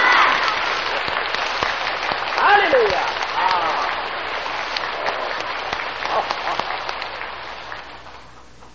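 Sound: audience applauding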